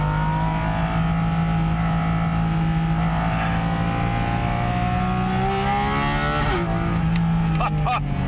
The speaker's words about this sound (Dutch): Ik zou af en toe een beetje hard moeten praten. En dat komt achter mij grote airbox carbon. Daar wordt wat lucht aangezogen. Dit is nog niet eens een sportuitlaat, die kan ik nog aanzetten, maar eigenlijk maakt dat binnenin niet zoveel uit.